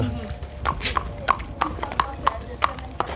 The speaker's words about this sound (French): Alors là, on la regarde marcher au pas, c'est ce qu'on appelle au pas. Le cheval il a trois allures, le pas, le galop et le trot.